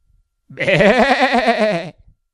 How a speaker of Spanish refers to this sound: ¿Cómo hace la oveja?